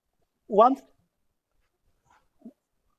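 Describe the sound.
One short, fairly loud dog bark with a tonal, voice-like quality, followed by a brief faint yelp or sound about two seconds later, then quiet.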